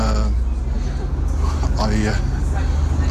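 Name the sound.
inside a moving bus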